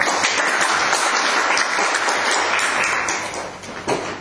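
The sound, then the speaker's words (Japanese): Many people applaud together, a steady dense clatter of many hands clapping at once for about four seconds before it starts to thin out at the end. “今日は拙い客はとなりますが、よろしくお願いしますということで、拍手。”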